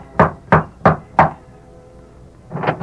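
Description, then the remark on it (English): Four sharp, evenly spaced knocks by Tom Byerly on the wooden door of Mark Paulson's ranch house in The Lone Ranger, clear, followed by a brief pause and then a muffled shuffling or the door beginning to open. “Tom Byerly rapped at the door of Mark Paulson's ranch house, then...”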